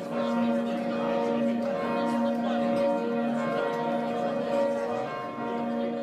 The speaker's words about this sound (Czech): O osveštanju trećeg zvona u crkvi pokrova Presvete Bogorodice u Karanovcu kod Banja Luke